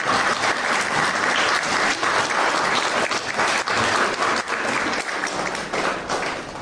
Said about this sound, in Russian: Можно уже начинать аплодировать.